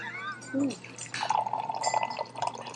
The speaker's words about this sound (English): All right. Now we will officially pour the tea because that looks steeped.